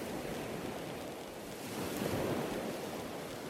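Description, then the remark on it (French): Steady roar of waves crashing and churning against sharp rocks below, a dense continuous surf wash that swells slightly louder midway, with no voices present. “En contrebas, les vagues se fracassent contre les rochers acérés.”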